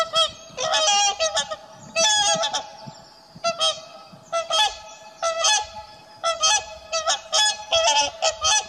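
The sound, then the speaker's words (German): Wild geese honk repeatedly in loud, overlapping bursts, a busy flock calling with brief pauses between clusters of harsh, nasal cries. “Wildpferde, Weißstörche, Reiher, je nach Jahreszeit bestimmt der Ruf wilder Gänse, das Trompeten der Kraniche oder das melodiöse Tönen der Singschwäne die Luft.”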